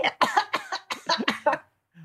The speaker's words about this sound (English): Let her clear her throat.